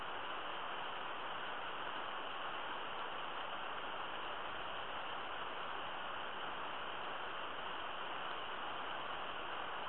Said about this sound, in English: Allow the sound of the rain to increase your frequency ever higher now.